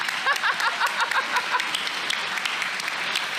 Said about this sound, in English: How many of you have been here for every single one? Stand up. There's a few of you. Let's clap for them.